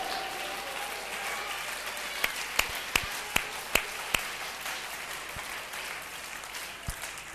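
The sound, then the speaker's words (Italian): A church audience applauds the King (God), a steady wash of many hands clapping with a few sharp, distinct claps standing out near the middle. No one speaks. “Vogliamo applaudire il Re.”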